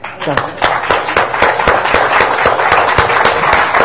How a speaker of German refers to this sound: Und ich denke, wir sollen jetzt eines tun. Wir sollen mal kurz aufstehen und einen richtigen, kräftigen Applaus geben für Jesus Christus, dass er uns zusammenhält.